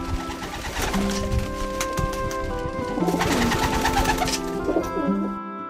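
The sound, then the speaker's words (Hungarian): A dense chorus of many homing pigeons cooing at once, steady, with overlapping throaty warbles and busy rustling throughout, no voices. About 2,000 racing pigeons, mostly Hungarian with some from Austria, Romania and Slovakia, gathered for an international pigeon race. “Ezeknek nagy része magyar galamb, de Ausztria, Románia és Szlovákia is küldött ide postagalambokat, az olasz postagalambászok és galambjaiknak a részvételével így egy több ezres postagalambversenyt tudtunk rendezni.”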